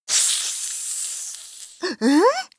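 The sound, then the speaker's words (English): A snake hisses in one long, loud, breathy stretch that gradually tapers off, followed right after by a short startled vocal exclamation. “Ah, a snake!”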